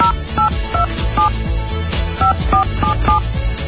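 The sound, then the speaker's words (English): A rapid series of telephone keypad tones, about eight or nine short beeps in two quick clusters, dialed over a steady, thumping low background. “Dial tone?”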